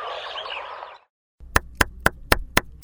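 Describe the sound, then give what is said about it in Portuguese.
A brief muffled sound fades into a short silence, then a man knocks on the door of his friend's house at around 10 in the morning, about six times in a steady, evenly spaced rhythm, each rap sharp. “Por volta das 10 horas da manhã, ele bate a porta da casa de Paulo.”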